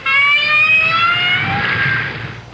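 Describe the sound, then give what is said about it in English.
A whale call: a sustained, loud, high tonal cry with bright harmonics that slowly slides downward in pitch over a couple of seconds, then fades, with no one speaking. “If you agreed with these guesses, you've been fooled, because each sound was made by a whale.”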